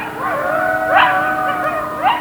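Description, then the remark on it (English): Several coyotes in San Francisco yip and howl together in a loud, overlapping chorus, their wavering high-pitched calls rising and falling continuously with sharper yelps breaking through. “A new batch of pups promises to make a very vocal appearance this spring.”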